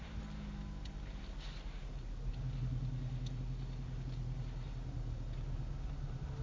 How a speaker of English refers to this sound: Watch it, there's a car coming.